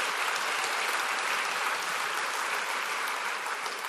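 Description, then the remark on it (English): An audience at a Jesuit university orientation applauds the OAs, student leaders in red polos, steadily, a dense wash of many hands clapping at an even, sustained loudness throughout, with no voices standing out. “A little round of applause for the OAs.”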